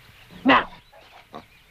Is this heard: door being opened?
no